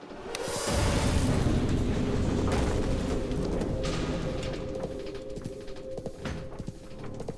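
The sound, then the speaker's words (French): A single explosion of explosives covered with jute sacks to muffle it, directed at a concrete vault, goes off with a deep, heavy, muffled thud, followed by a low rumbling roar that lingers and slowly fades over several seconds, with no voices. “Ils ont placé des sacs de jute sur les explosifs. C'était non seulement pour étouffer le bruit, mais aussi pour diriger l'explosion vers la chambre forte.”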